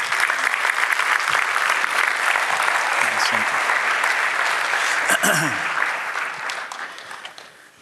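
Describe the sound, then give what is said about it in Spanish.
Sustained applause given to God for people called to the front, a dense steady clatter of many hands clapping that holds strong for several seconds, with a few voices cutting through, then gradually tapers off toward the end. “Damos un aplauso a Dios por ellas.”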